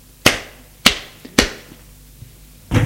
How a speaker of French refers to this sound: Et la gifle, la gifle, la gifle n'arrête plus.